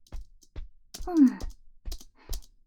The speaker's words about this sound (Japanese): キーボードさんをカタカタすると、人間さんたちの文字が出てくる。すごい！